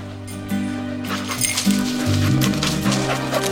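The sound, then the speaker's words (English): A search dog, being run to find any human remains, gives a few short barks and whimpers, the yelps breaking over a steady low droning tone that continues throughout. “Just going to run this dog to see if we can find any type of human remains that are left.”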